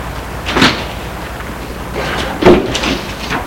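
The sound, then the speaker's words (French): A car door shuts with a solid clunk as a man gets out of the car at his parents' house, and a second door thump follows about two seconds later, over a quiet background hum with no talking. “Il sort de voiture,”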